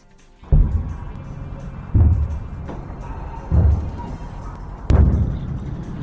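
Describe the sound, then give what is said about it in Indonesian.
Explosions in the Gaza Strip at nightfall on a Monday during Israel's campaign against Hamas: four heavy, booming explosions at steady intervals of about one and a half seconds, each a deep thud with a rumbling tail, over a constant low background roar. “Ledakan dan asap terlihat di jalur Gaza saat malam mulai tiba pada hari Senin, ketika Israel melanjutkan kampanyenya melawan Hamas.”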